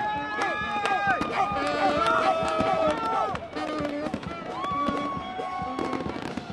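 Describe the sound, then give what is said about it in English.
Fireworks bang and crackle in quick, repeated bursts at a ballpark after the Cards' win over the Tigers, over a loud, lively crowd of nearly 47,000 whose voices and cheers fill the space, with whistling tones rising and falling among the explosions. “Fireworks went up and people danced to a street performer's saxophone.”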